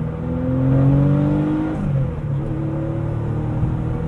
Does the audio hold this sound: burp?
no